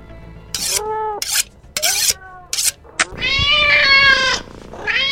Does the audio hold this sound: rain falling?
no